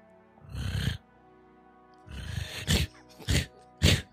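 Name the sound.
imitated snoring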